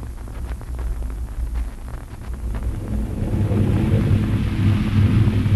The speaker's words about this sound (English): Storm's coming.